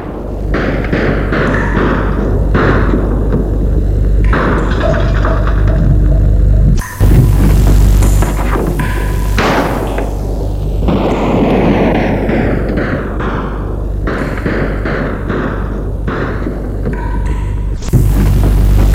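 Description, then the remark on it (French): Loud, continuous bursts of rapid submachine-gun fire crackle over a deep booming rumble, with dense overlapping shots and a brief pause near the middle. No one speaks. “Son cri s'est arrêté à cause des rafales de mitraillettes.”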